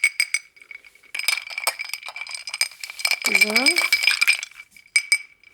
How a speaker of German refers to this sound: So, jetzt rühren wir nochmal um. Und ich hoffe, der schmeckt.